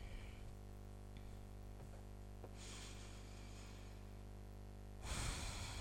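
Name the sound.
slow deliberate breathing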